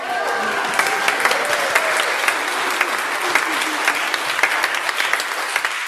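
A crowd applauds steadily for several seconds, a dense, even patter of many hands clapping at a fairly loud level with some faint voices mixed in.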